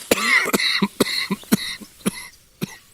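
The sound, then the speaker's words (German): A coughing fit: about seven or eight harsh, rapid coughs in quick succession, fairly loud, with short gasping breaths between them and no talking. “So, jetzt zum Schluss nochmal ein Hustenanfall.”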